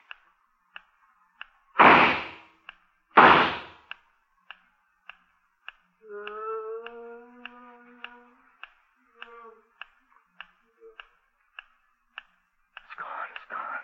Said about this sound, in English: I guess I scared it off with the gunshots.